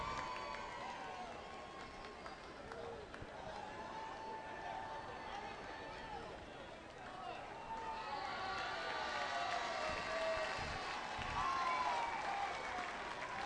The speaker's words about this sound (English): Pop up back to the stands. That will also get the crowd rising. And they scream at the foul ball coming their way. They'll do it again.